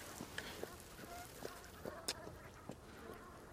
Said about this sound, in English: Oh, so that's lovely. We've got these Brent geese in the mud flats.